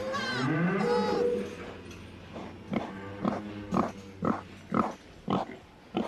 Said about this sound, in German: Am nächsten Morgen herrscht wieder Unruhe im Stall.